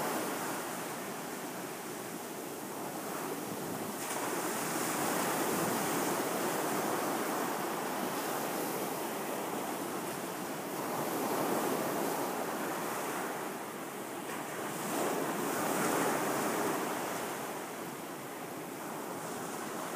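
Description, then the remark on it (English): Steady ocean surf washes onto a beach at a swimming spot, a broad hiss of breaking waves that swells and recedes in slow surges, with a light wind noise and no voices. “And for those who would not like to swim, you can sit with me here, right by the beach.”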